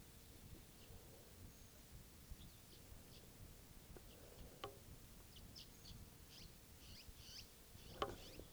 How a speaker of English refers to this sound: It's recording that wild bird.